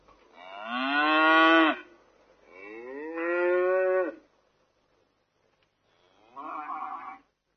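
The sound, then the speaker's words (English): Cattle in a cattle shed moo three times, long drawn-out lowing calls with a pause between them; the first two are loud, the last one shorter and a little softer. “The couple sadly left the town and found a cattle shed to sleep in.”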